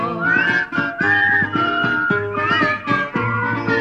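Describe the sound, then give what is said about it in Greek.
A person whistles a lively, wavering melody up front, carried over a steady rhythmic instrumental accompaniment with a bouncing low bass line; no one speaks. “Και με κέφι του σφυρίζω.”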